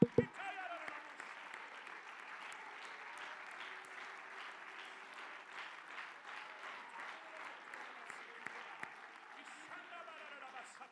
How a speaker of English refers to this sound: I praise Him today because He restores. Come on, give Him a hand clap of praise right now.